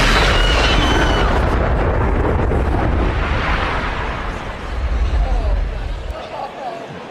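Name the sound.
loud explosion sound effect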